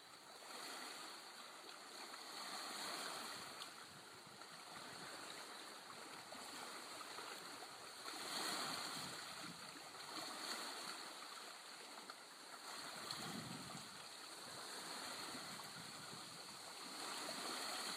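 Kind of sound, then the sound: nature, water flowing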